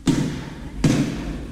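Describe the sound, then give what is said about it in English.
A basketball is dribbled twice at school by someone walking toward the gym, each bounce a firm, hollow thud with a slight ring, spaced about three-quarters of a second apart, with no voices. “Later at school, he dribbles a ball as he walks toward the gym.”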